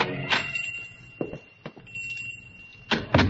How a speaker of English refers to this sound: On a sudden impulse, he pushes open the door and goes in.